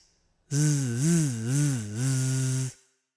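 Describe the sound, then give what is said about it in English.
A voice imitates a bee with a single loud, sustained buzz lasting about two seconds, its low pitch rising and dipping in a few slow wobbles before stopping abruptly. “Did you ever hear a bee buzz? A bee buzz like this.”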